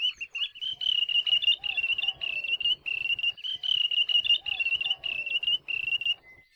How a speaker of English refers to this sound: Their English name, wandering tattler, refers to their alarm calls to warn other birds when hunters or predators are nearby.